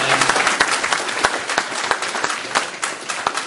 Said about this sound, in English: Everybody give them a round of applause and come to speak.